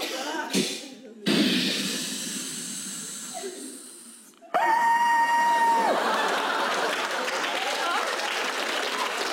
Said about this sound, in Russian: Но знаете, страшнее вот это вот... Это кнопка смыва в биотуалете современного поезда. Слышали?